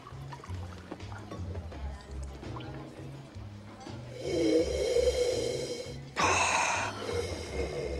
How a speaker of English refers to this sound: In a restaurant, a waiter pours wine into Ned's glass. He swirls the wine.